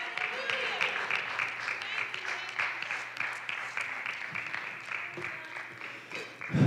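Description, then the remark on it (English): An audience claps hands for God during worship in steady, dense applause that keeps going without a break for several seconds, with some faint voices mixed in underneath. “Let's give him a good hand today.”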